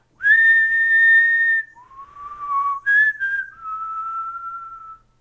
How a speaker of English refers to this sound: If something goes wrong and your song isn't coming together, you will need a melody to guide you. Come up with your own. Just whistle something to a beat.